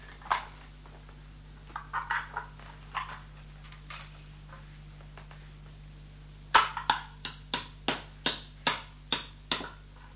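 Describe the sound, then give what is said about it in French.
A hammer strikes nails with sharp knocks while building a small house: scattered irregular taps at first, then a steady run of about eight quick blows in a row, with no talking. “Ça fait du bruit un marteau, hein?”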